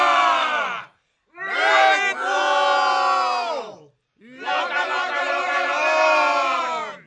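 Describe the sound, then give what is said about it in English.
A charging band of voices at the bottom of a stairwell howls battle cries in three loud, sustained bursts separated by short silences, many pitches rising and falling together in a wild, wavering roar. “Taking up the call, the band at the bottom of the stairwell howled their own battle cries as they charged from their end.”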